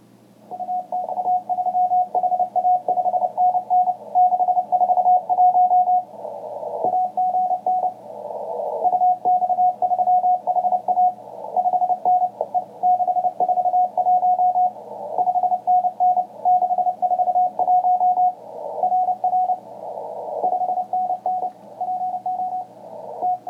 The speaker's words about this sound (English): So it sounds like Morse code to me. So that's apparently Morse code still going strong out there.